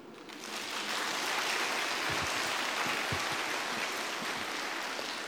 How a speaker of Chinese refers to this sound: 大家的掌声说明问题了啊！